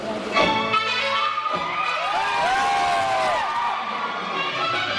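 An audience of about 500 people at the Maratha Mandir single-screen theater in central Mumbai cheers, claps and shouts during a screening of DDLJ for about five seconds, a dense, loud roar with high whooping voices and sliding melodic tones rising above the crowd noise.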